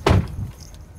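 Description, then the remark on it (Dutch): A single sharp mechanical clunk of a taxi's car door being pulled open by the driver, with a brief low thud that fades quickly into quiet background noise. “Als een echte taxichauffeur dat doet, zal ik even je deur opengooien.”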